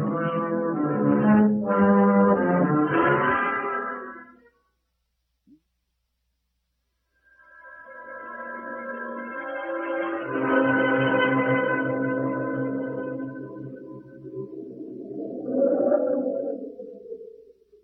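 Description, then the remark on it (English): Howling storm wind blowing from the east, with moaning, wavering tones that rise and fall, breaking off briefly before returning in a long, swelling gust that peaks again near the end. “Storm coming up. That wind's from the east.”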